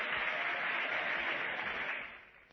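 A theatre audience at the Nemzeti Színház applauds as the curtain falls on the first act of a stage version of Mikszáth Kálmán's A Noszti fiú esete Tóth Marival, a dense steady roar of many hands clapping that holds strong, then thins and fades near the end. No voices are heard.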